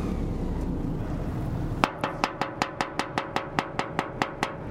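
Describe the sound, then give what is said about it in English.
Someone bangs on the metal side of a stranded ship, about a dozen sharp clangs in a quick, steady rhythm, each ringing briefly, after a low engine-like rumble that carries on underneath. “And that's him banging on the side of the ship.”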